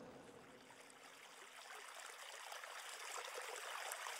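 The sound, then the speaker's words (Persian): A steady, continuous babble of flowing stream water, bright and hissy, swelling slightly louder toward the end with no voices present. “حضرت عباس با دشمنهای زیادی روبرو شد و همگی را دور کرد و از بین همهشان رد شد تا بالاخره به کنار نهر آب رسید.”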